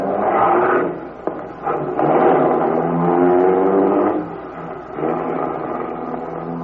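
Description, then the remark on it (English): A getaway car carrying bandits from a holdup on Surf Avenue, Coney Island, its engine roaring loudly, revving hard and surging as it accelerates away, with a brief dip partway through before it picks up again. No voices are heard. “Here comes the car.”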